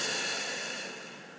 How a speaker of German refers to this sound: Atmen durch den Mund ein. Und durch den Mund aus.